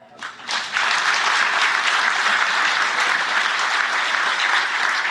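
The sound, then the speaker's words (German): An audience claps on request for comparison, starting with a few scattered claps and quickly swelling into sustained, even clapping from a large crowd that holds steady for several seconds. “kann nur mal im Vergleich einmal alle klatschen?”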